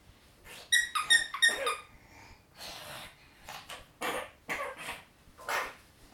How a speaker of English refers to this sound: Oh, bless you. Achoo, achoo, bless you.